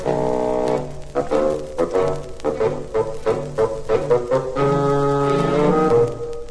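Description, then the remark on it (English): A low, reedy bassoon, representing Grandpapa, plays a gruff melody of short, detached notes that give way to longer held tones near the end, fairly loud with light orchestral backing and no voices. “Grandpapa is an old bassoon.”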